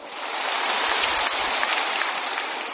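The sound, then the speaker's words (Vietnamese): Dense, steady applause from hundreds of Communist Party of Vietnam members at the end of a speech by Phú Trọng, hands clapping together into a continuous crackling roar that holds at a fairly loud, even level throughout, with no voices. “Kết thúc bài diễn văn trong tiếng vỗ tay của hàng trăm đảng viên, ông Trọng hô to khẩu lệnh: Đảng Cộng sản Việt Nam quang vinh muôn năm.”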